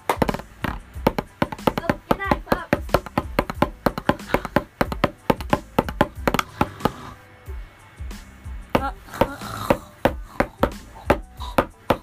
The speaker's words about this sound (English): Okay. I'm going to play my drum pad.